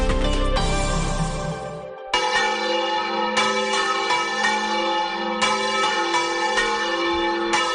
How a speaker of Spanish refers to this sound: Pues así suenan las campanas de la Catedral de Sigüenza, repicando desde su torre.